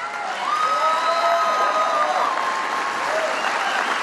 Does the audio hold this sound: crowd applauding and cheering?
yes